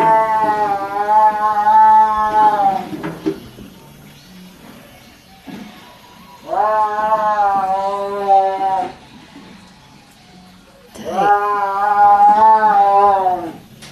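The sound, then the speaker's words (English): A caged tiger, one of a row of caged tigers kept under an old tent, yowls three times: long, loud, wavering cries of about three seconds each, separated by short pauses, with a faint hum of background noise between them. “Have you ever heard a tiger yowl?”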